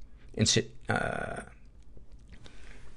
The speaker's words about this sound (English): excuse me. That was a swallowed wrong, not a getting sick cough.